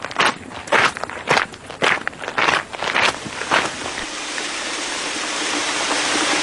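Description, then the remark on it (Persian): Steady rain falls with a dense, even hiss. For the first few seconds, footsteps sound over it, then the rain continues alone at a constant, moderately loud level. “خدای شکره، چه بارونی داره میباره.”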